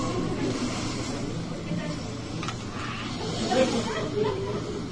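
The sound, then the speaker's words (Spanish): Wind howls and rushes at night in a steady, hissing wash of noise, holding an even level throughout with a slight swell near the end. “Después de eso, la noche continuó serena y tranquila, solo con el aullar del viento.”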